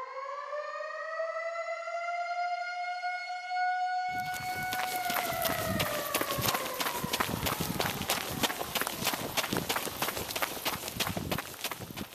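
An air raid siren wails steadily in 1940, its tone slowly sagging, then a clatter of many hurried footsteps bursts in beneath it as frightened people run home, the siren continuing over the rushing crowd.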